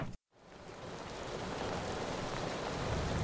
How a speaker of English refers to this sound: Oops, here comes the rain. Time to put that rolly up. I think you may need something a little more than an umbrella. That's not going to offer a lot of protection against the kind of winds we can hear coming.